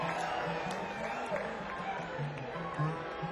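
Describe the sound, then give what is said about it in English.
Steady audience applause at an event in Nelson County, a dense wash of clapping that holds at an even, moderate level throughout, mixed with crowd murmur and a few voices calling out over it. “Yeah, we are so psyched to do this here in Nelson County, and we want to give a big round of applause for all the folks from Nelson County that are here today.”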